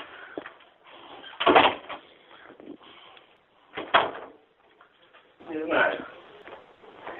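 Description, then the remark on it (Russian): A few separate knocks made by a man standing on a balcony land several seconds apart, moderately loud, with a person talking between and around them. “Он на балконе, я слышу, я постучал.”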